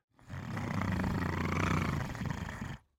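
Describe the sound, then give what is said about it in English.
A single rough, sustained growl from a young tiger cub, deep and rumbling, lasting a couple of seconds at steady loudness before cutting off, with no talking. “Growled the growl.”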